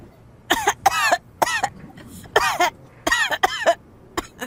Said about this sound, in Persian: کل شبو داره سرفه میکنه. همون سرماخوردگیه که همه گرفتن؟ اولش اینطوری شروع شد ولی بدتر شده. دکتر کاکس میگه سینه پهلو گرفته.